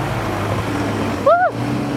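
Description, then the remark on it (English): A scooter rides through city traffic past Downing Street with a steady motor drone and road rumble; near the end, a person lets out a short rising-and-falling exclamation over the engine. “We're about to zoom past Downing Street on our left.”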